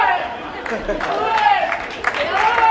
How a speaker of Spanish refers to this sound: Ovación merecidísima para la mejor del equipo español de atletismo.